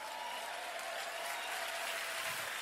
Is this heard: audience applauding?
yes